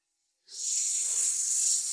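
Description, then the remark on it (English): After a brief silence, a spray can of slippery snake spray, sprayed to cover the floor, lets out a steady hissing blast that keeps going without pause until the end. No voices are heard. “Whoa, too much slippery spray.”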